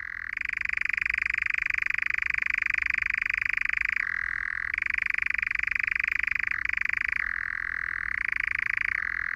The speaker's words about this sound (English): That's the rising and falling continuous churring of the nightjar. Nightjars are one of the most enigmatic species, and they're rarely seen due to their nocturnal habits.